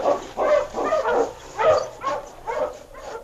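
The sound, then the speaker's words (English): A husky barks and yelps in a rapid, uneven run of about six loud, mid-pitched bursts with slightly whiny edges, heard on its own without any talking. “Hush, you husky, hush!”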